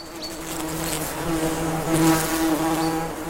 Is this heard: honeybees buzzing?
yes